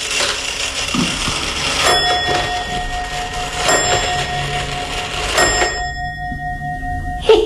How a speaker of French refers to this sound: C'est suisse, c'est la pendule suisse, elle est vieille comme tout.